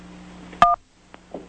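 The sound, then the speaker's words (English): A single telephone keypad tone, pressed to answer an automated pizza-ordering phone menu, sounds as a short two-pitched electronic beep that starts with a click, over a steady low hum with a couple of faint clicks afterward. “If that is correct, press 1 for yes, 2 for no.”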